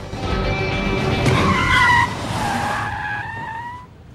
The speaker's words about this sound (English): The SUV backs away and Jack drives off.